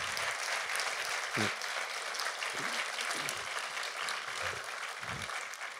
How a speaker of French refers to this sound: Vraiment, on devrait donner une bonne main d'applaudissement à ces gens.